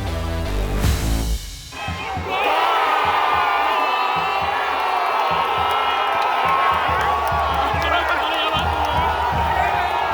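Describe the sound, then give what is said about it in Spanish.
A big stadium crowd erupts into a loud, sustained roar of cheering and shouting, as if celebrating a goal, following a brief tonal sound at the very start. “¿Qué ocurre en el cuerpo cuando gritas gol?”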